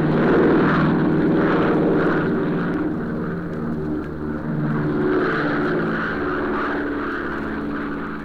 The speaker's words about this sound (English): Big plane neared the end of a cross-country flight.